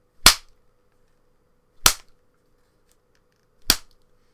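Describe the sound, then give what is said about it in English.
Three sharp, loud whip cracks snap out at an even, unhurried pace, each a bright instant burst that dies away quickly into silence, as a whip is struck across a person's body. No voices are heard. “And one last crack of the whip right across your mound.”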